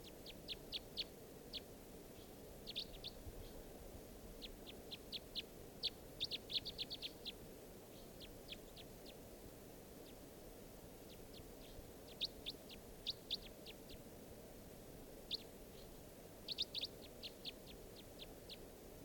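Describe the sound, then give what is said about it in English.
A mixed flock of type 3 and type 4 birds gives short, sharp calls in quick clusters throughout, fairly faint, over a steady low background rumble. “So there's type 3s and type 4s. Mixed in the flock.”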